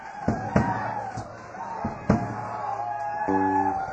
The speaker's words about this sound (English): One of the ducks, just one of the ducks.